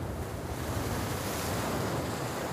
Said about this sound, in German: Die Wellen kommen näher.